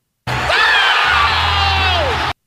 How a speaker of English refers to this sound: The yell that he had on that dunk call, though, was pretty strong.